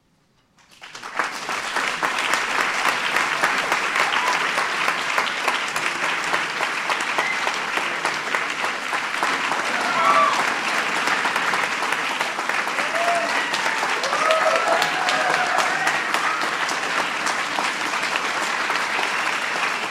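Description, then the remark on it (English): Sustained applause from a large awards ceremony audience for a group of honorees, a dense, even wash of many hands clapping that swells in within the first second and holds steady at full volume, with faint cheers rising now and then. “Let's give them all a big round of applause one more time.”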